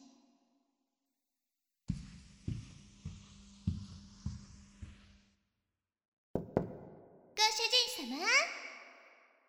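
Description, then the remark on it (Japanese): Deep, resonant knocks by a petite young maid on the heavy door of the master's room in a large mansion, about six in a steady series, then two more after a short pause, followed by a high, youthful voice speaking. “ご主人様の部屋の重厚な扉をノックする小柄な美少女こそ、屋敷の筆頭メイドの”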